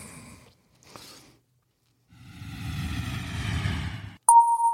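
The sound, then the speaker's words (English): A brief airplane boarding sound effect for an overseas flight from the United States: a swelling roar of jet engine and cabin noise, cut off by a loud, clear two-tone cabin chime ringing out at the end. “getting on a plane. We're going overseas.”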